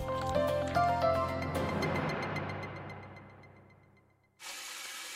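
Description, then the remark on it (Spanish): Water splashes and gurgles with a ringing, resonant tone that fades away, then a tap gushes on with a steady, loud rush of running water, wasting water. “Este eres tú gastando agua.”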